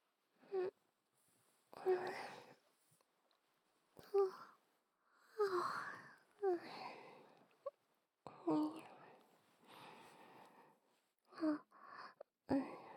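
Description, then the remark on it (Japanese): A soft, breathy yawn from someone lying under a futon, then a run of drowsy, wordless mumbling sounds in short murmured bursts with quiet pauses between them. “むにゃむにゃってあくびの後にむにゃむにゃってしちゃいましたお布団の中安心します。”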